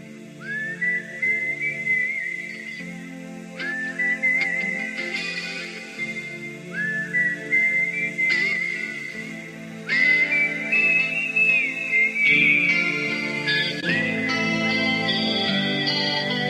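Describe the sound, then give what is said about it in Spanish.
A clear whistled melody, whistled by the singer as the intro of a 1991 rock song, plays a slow, repeating phrase several times over a soft band backing of sustained guitar and keyboard, the whistling bright and upfront, rising slightly in the final phrases. “El silbido estuvo a punto de no ponerse en la canción, lo hace el cantante”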